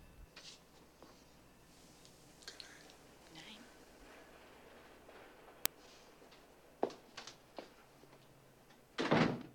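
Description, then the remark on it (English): A man opens a door as he leaves: a sharp latch click, a few soft knocks and scrapes, then a louder thudding rattle near the end, all over a low, quiet background hum. “He opens the door, then turns back to her, both smiling.”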